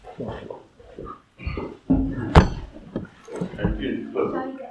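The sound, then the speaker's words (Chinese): A chair is shifted with a single sharp knock against the floor midway through, while people talk throughout. “搬那椅子坐太辛苦了，不要罚站了。”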